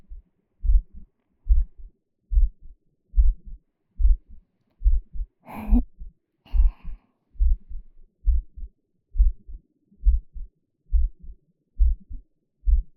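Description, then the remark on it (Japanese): A steady human heartbeat heard inside the body, deep, muffled lub-dub thumps repeating at an even, relaxed pace, with a brief breathy rustle partway through. There is no talking. “私の体をめぐる音。私の中の音。”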